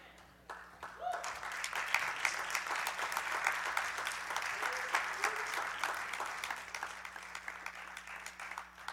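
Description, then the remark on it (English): A room full of people applauds steadily, a dense patter of many hands clapping that swells in the first second and holds at a fairly loud, even level throughout. “And you might not clap at this last one.”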